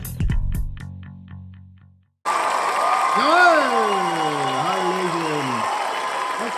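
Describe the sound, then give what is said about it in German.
A short musical jingle stops, and after a moment's silence a dense, steady roar of a packed sold-out crowd rushes in, many voices chattering at once with one louder voice rising above. “Das ist einfach zu laut mit den Leuten.”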